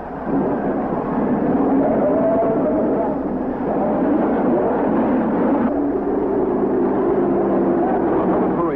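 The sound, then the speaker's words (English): A loud, continuous roar of several race car engines firing up and revving together at the restart of a 500 race after a rain postponement, the pitch rising and shifting partway through over a dense rumbling background. “Restart your engine.”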